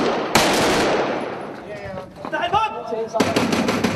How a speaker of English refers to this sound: As the officers move in, gunfire is briefly exchanged, the bullets piercing the morning silence.